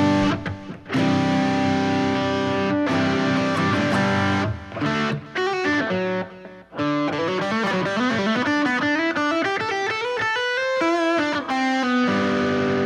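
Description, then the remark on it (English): A warm, distorted guitar tone plays a thick sustained chord, pauses briefly, then runs through a busy melodic line with bending notes, loud with no voices. “It's kind of a warmer, egregious weasel word, a warmer distortion.”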